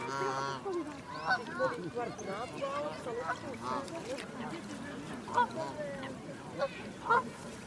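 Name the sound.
waterbirds calling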